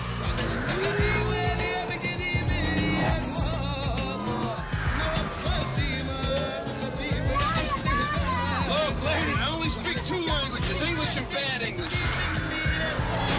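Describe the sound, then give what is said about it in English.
A frantic car chase from the science fiction movie The Fifth Element, with police in pursuit through the streets of a futuristic New York: engines roar, tires screech and sirens wail continuously, with shouting voices over a dense, loud, layered soundtrack. “We're listening to an adrenaline-pumping car chase from the science fiction movie The Fifth Element.”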